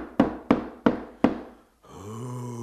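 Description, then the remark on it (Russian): Four heavy, booming knocks on the gates of a castle, evenly spaced with resonant decaying tails, followed by a long, low, drawn-out creaking groan. “С трудом добрался он по горной тропе до замка ветра и постучал в ворота.”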